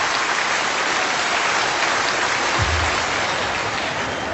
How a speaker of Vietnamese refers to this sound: Cho nên để mở đầu cho buổi pháp thoại, tất cả chúng ta sẽ có một tràng pháo tay, đó là niềm vui nghĩ đến những đấng sinh thầm của chúng ta.